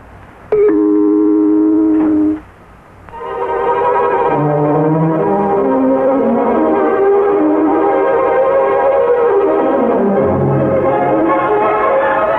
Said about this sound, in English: And an accurate time signal. When you hear the gong, it will be precisely 8:30.